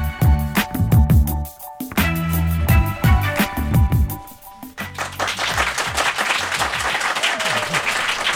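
A rhythmic musical passage with thumping bass beats gives way after about five seconds to steady, dense, spontaneous applause from a live audience at the KUOW Performance Center, a continuous wash of many hands clapping that carries on to the end.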